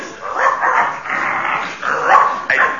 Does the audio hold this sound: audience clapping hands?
no